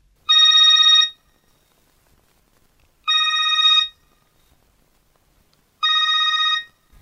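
A telephone rings three times, each ring a bright, even electronic trill lasting under a second, separated by regular pauses of silence. The sound is clear, with no voices; it is the ringing of a phone call before a conversation.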